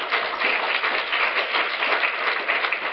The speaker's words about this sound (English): And let's give another round of applause to all three of our panelists.